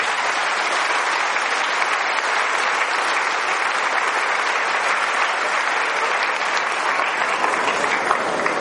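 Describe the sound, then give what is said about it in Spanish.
An audience applauds Saint Catherine of Siena steadily, a dense, even wash of many hands clapping at constant loudness for the whole stretch, with no voices standing out. “Pero yo entiendo que la gente aquí le da muy poquitos aplausos a la pobre Santa Catalina de Siena.”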